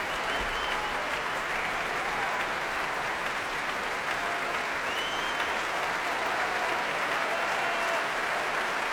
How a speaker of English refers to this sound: Feet stamping, slow hand clapping to urge him back once again onto the platform, and here he comes. Lars Vogt alone this time.